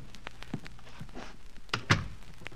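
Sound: door being closed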